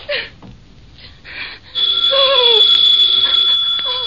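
telephone ringing

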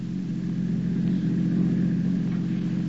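car engine running

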